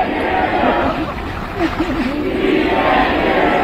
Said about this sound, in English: They're chanting, "We can't hear you."